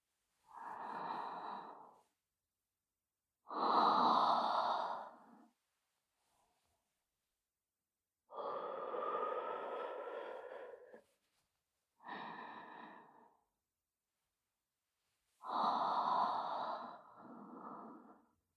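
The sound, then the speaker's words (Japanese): Slow, airy breaths come in about six separate puffs with quiet pauses between them, each a soft rushing exhale of moderate loudness. Nobody speaks. “このまま、吐息の方もお確かめを。”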